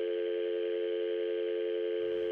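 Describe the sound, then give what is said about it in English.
A steady, unbroken telephone dial tone hums at a constant mid pitch for the whole stretch, left on the line after a dropped call, with no voices over it. “Looks like we lost him. Let's try to get him back on the line.”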